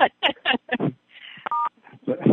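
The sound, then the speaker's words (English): A single short, steady telephone keypad tone beeps out at a clear level, sandwiched between stretches of people talking. “Entry and exit chimes are off. Now we won't hear people when they hang up.”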